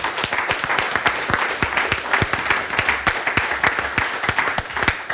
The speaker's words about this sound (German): Ich bedanke mich bei den Vortragenden und bitte vielleicht jetzt um einen tosenden Applaus